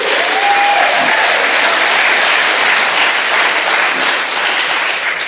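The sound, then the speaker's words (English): The audience of Christian Assembly Church claps at the installation of its new pastor, steady, dense applause that stays loud throughout, with a brief cheer or whoop rising above the clapping near the start. “Yeah, go ahead, clap.”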